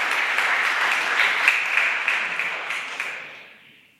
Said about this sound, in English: We call him Jesus. Why don't you clap him and give him a round of applause for that?